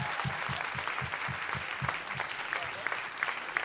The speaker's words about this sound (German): Yeah! Ein Applaus!